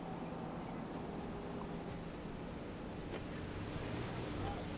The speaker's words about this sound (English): We're close to the harbour now. Stop a second. Watch the fishing boats.